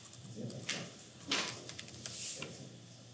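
A drawer scrapes and clunks during a council meeting, with a louder knock in the middle and a few lighter rattles and clicks before and after, with no talking.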